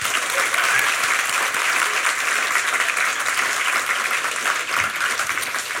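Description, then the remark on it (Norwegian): Steady, sustained audience applause for a history professor from the University of Oslo, a dense wash of many hands clapping at once, loud, holding at an even level without any talking over it. “En stor applaus for professor I historie ved Universitetet I Oslo”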